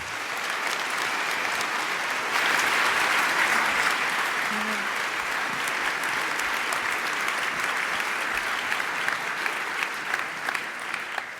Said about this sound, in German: Und jetzt einen großen Applaus.